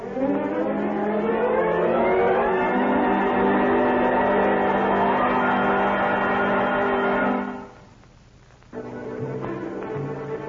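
A car engine revs loudly and steadily climbs in pitch as it accelerates, then cuts off abruptly before a lower engine rumble returns, with no voices.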